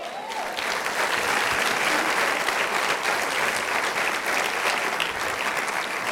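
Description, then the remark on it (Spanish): An audience claps steadily for about six seconds, a dense, even wash of many hands with no voices standing out, holding at a constant loud level before easing slightly at the end. “Aplauda.”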